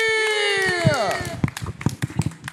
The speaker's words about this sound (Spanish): Un aplauso a ustedes. Gracias por estar aquí.